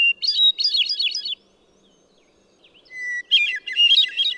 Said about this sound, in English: Another mile along, and among silvery green fir trees, the crystalline phrases of a hermit thrush carry through the forest.